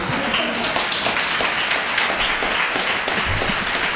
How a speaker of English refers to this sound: And you get applause today. Did you hear that? Oh, I love it. I love it. I love it.